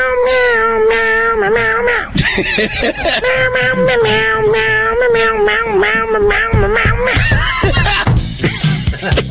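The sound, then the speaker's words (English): A man from the office imitates a cat, producing a long run of drawn-out, wavering meows one after another, loud, with little pause between them for about nine seconds. “that's the guy in the office that talks like a cat.”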